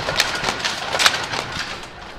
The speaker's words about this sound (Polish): W tym pomieszczeniu mamy szansę zobaczyć i usłyszeć pracę starych maszyn, między innymi starych krosien.